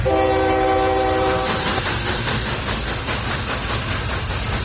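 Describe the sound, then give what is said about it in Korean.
A Trans-Siberian Railway train in the Soviet Union rumbles steadily along the rails, loud, with a sustained horn blast in the first couple of seconds and a faint rhythmic clatter beneath the broad roar. “버크화이트는 첫 번째 소련 여행에서 시베리아 횡단 열차를 탔습니다.”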